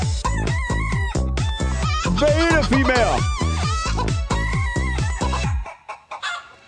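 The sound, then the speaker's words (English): Loud chicken clucking set to a steady, song-like rhythm, with rapid repeated clucks and rising squawks running for several seconds before fading into a few scattered sounds, with a brief voice. “Chicken song.”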